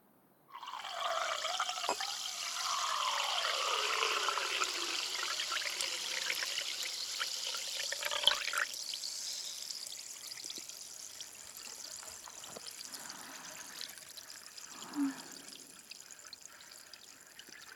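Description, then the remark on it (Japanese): A carbonated drink is poured into a new glass, the splash settling into a steady crackling fizz of bubbles that slowly thins out, with a small clink near the end. “新しいグラスを用意して、ここからは両耳同時に炭酸音を聞かせてあげるね。”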